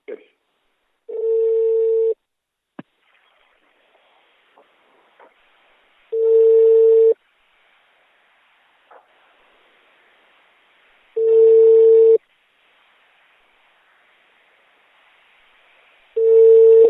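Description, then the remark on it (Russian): A telephone ringback tone repeats four times, each steady one-second buzz separated by about four seconds of near silence, with a few faint clicks on the line in between. “Пошел дальше, звонок кто-то пошел.”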